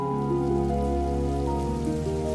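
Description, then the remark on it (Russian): Steady rain patters on a surface, a continuous even wash of sound blended with a sustained low droning tone, with no one speaking. “В Питере шел дождь.”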